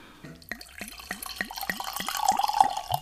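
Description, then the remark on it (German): Liquid glugs steadily from a bottle into a glass, a quick regular series of gurgles that builds slightly in loudness as the glass fills, with no talking. “Magst du den mal einschenken?”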